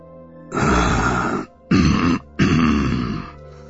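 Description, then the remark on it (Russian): Three loud, low grunting groans in a row, strained and throaty, a voice portraying giant tree creatures approaching on creaking, knotted legs, each groan lasting about a second; no words are spoken. “Вдруг послышалось покряхтывание.”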